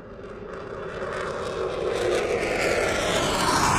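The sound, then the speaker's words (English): A steady, droning airplane engine hums through the cabin as the plane flies across the North Atlantic toward England, a broad continuous roar that swells slightly louder over a few seconds, with no voices. “The plane continued across the North Atlantic, heading south to England.”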